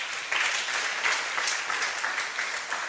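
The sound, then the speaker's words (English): An audience applauds the worship team steadily for a few seconds, a dense wash of many hands clapping at an even, moderately loud level with no voices standing out. “Give a big hand clap to the worship team.”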